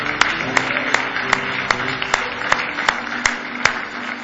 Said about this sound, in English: Hallelujah. Give me one more hand clap of praise if you love him tonight.